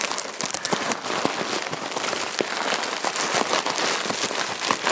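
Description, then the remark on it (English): A large bubble wrap parcel being unwrapped: a steady, dense crinkling and rustling of plastic with scattered sharp crackles and pops, continuous throughout with no talking. “There is a large bubble wrap parcel in here.”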